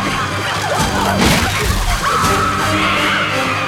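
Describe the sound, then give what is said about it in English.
A massive branch of a dead tree breaks in half as its brittle bark shears off, cracking and crashing down in a dense, loud, sustained burst of splintering noise that swells around the middle and keeps roaring with no pause. “The brittle bark shears off as a massive branch breaks in half.”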